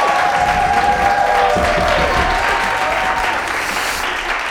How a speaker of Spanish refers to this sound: Pues nada, a mí me encantaría seguir hablando de esto, pero yo creo que lo mejor es que demos un aplauso